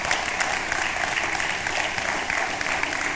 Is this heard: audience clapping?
yes